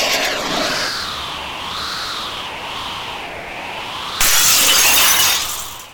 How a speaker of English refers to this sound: After flying 3 circuits in the room, the bird broke a window and flew outside.